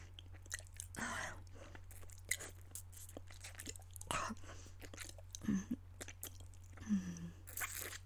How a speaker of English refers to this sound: How does it feel? Having me slurp on your cock and you're not allowed to move.